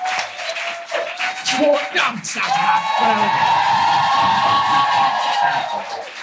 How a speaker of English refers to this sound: Thank all of you so much for coming out. Give everyone a round of applause.